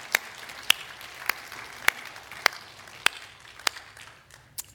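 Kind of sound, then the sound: crowd, audience clapping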